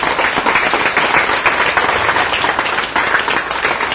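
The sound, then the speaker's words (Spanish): A church audience bursts into sustained applause for God and a visiting brother, dense overlapping clapping that stays loud and steady for the full four seconds with no voices standing out. “Un aplauso a Dios y a nuestro hermano.”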